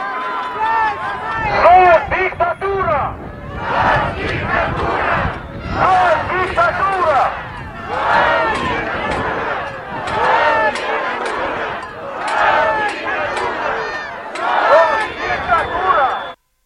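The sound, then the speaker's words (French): An opposition protest crowd in Moldova chants slogans against the government, such as "Stop à la dictature", in unison, loud and rhythmic, with repeated bursts of many voices roughly every two seconds and steady crowd noise filling the gaps. “Stop à la dictature, scande la foule.”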